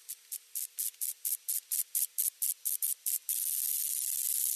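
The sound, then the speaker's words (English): A moth's ultrasonic mating call: a rapid train of about a dozen hissy, high-pitched pulses, roughly four per second, ending in a sustained steady hiss. No voices. “Well, first of all, moths do make sound. They have ultrasonic mating calls.”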